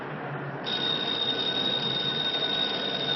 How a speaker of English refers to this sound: Stops at a phone booth, just as a woman walks out of it. He looks in at the ringing phone.